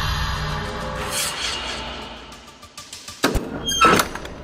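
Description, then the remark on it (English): A heavy hidden door in an old castle grinds and scrapes open amid low rumbling, ending with a couple of solid clunks and thuds, with no voices. “These hidden doors in these old castles are so cliché.”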